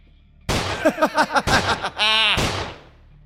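Three sharp, loud gunshots ring out about a second apart, with short rhythmic bursts of laughter between them, as Rocco fires his gun into a corpse, before the last shot fades into quiet.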